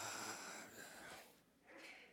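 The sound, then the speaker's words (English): A single soft sneeze, a breathy burst of hissing noise that trails off, then a brief nasal snort-like exhale. Fairly faint, with no talking. “Bless you.”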